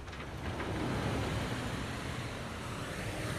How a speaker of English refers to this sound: This is a 125-ton excavator loading a 100-ton dump truck with Category 1 ore. So this is the best quality ore. And so you have enough dump trucks so that when one is full and off, there's another dump truck to take its place.